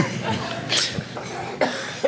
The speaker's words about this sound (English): Sorry, I had to cough before saying, let the games begin!